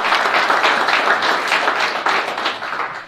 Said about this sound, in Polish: Panie doktorze, brawa dla pana Leszka Sykulskiego.